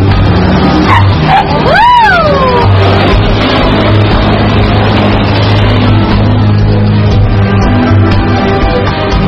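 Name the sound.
car speeding away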